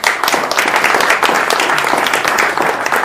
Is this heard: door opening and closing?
no